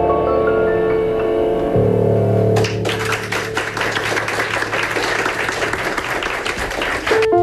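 A song closes on a held chord, then a crowd's applause bursts in and carries on as a dense, steady wash of clapping for nearly five seconds before cutting off.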